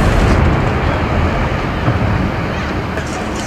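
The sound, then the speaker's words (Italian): Bombs exploding blur into a heavy, continuous rumbling roar that stays loud for the whole stretch, with no clearly separate bangs standing out from the dense low noise. “Ovviamente non riesce a dormire, cerca di turarsi le orecchie perché comunque possiamo immaginare dal sonoro non si capisce bene che tipo di rumore possano provocare queste bombe.”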